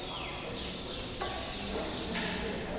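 Real canaries, kept in seven cages on a giant hanging mobile at a Karsten Höller art show, chirp in high, thin calls over a steady background hiss, with a few brief bright bursts scattered through. No one speaks.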